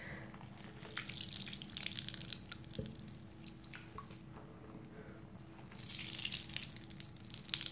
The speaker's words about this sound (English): I'm just dripping water on your back.